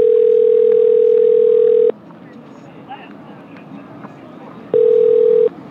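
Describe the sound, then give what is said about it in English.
A telephone ringback tone purrs twice over a phone line as a call connects to a person at home in Europe in the middle of the night: a long steady ring, a pause of faint line hiss, then a second shorter ring, loud. “You just happen upon them, which is how I end up on this phone call.”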